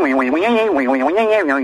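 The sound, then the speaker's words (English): A human voice imitates a duck, producing a continuous run of nasal quacking sounds with repeated rising, wavering inflections, fairly loud, with no other sounds around it. “Instead of that, you get a quacking sound of the kind that a duck makes with an unending series of upward inflections.”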